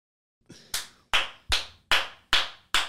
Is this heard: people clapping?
yes